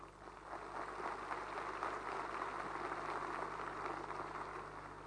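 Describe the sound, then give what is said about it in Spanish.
A crowd applauds President Santiago Peña in a dense, continuous wash of clapping that holds at a steady, fairly loud level for the full five seconds, with no voices rising above it. “y que dependen del máximo representante electo por el pueblo, el presidente Santiago Peña, para quien le pido un largo, fuerte y sostenido aplauso.”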